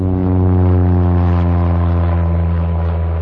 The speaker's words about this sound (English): What the hell was that? Holy shit, we gotta get out of here, man! What? A freaking plane practically flew into the building! Really? Yeah, it's coming back around, I'm sure!